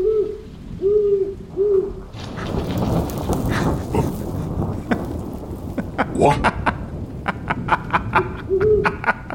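An owl hoots three times in a low, steady rhythm in the rain, then a broad rumbling wash with sharp crackling clicks takes over before one more soft hoot sounds near the end.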